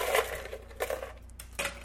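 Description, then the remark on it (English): Ice cubes taken from the freezer clatter into a plastic container in three separate bursts, each a short rattling clunk with a crisp, clinking edge, at modest volume against a low steady hum. “I put the ice in this plastic container.”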